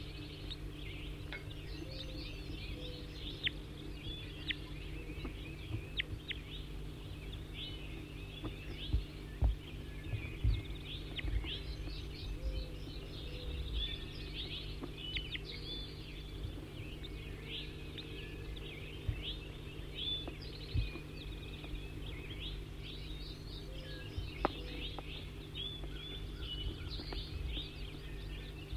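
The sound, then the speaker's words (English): Frequent short, high-pitched bird chirps and calls repeat irregularly throughout, fairly faint, over a constant low droning rumble. No one speaks. “5-9, in close proximity now to bird 06, both are surrounded by the net.”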